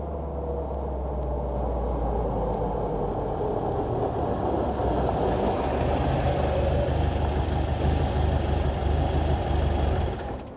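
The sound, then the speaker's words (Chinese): A train rolls into a station with a loud, continuous low rumble and mechanical drone that shifts slightly partway through, then fades at the very end. No one speaks. “火车就到站噶啦，快啲啊！”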